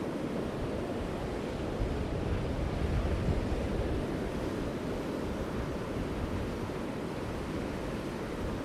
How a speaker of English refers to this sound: I'm standing right at the shoreline. I've got the surf coming in. White waves breaking everywhere. So hopefully you're picking up the sound of the ocean.